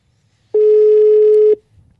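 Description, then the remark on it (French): A single ringback tone on an outgoing phone call, the second ring: one steady, loud electronic beep lasting about a second, with quiet line hiss before and after and no talking. “Deuxième sonnerie.”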